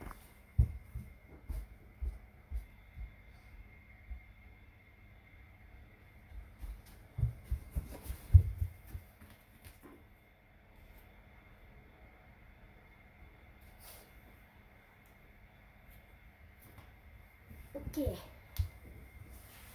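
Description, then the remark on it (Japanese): Someone pulls on a jacket outdoors on a cold, cloudy day with snow: muffled fabric rustling and soft thumps in a few short bursts, mostly in the middle and again near the end, over a low outdoor rumble. “ちょっと寒いんでちょっと上着だけ羽織りますね。”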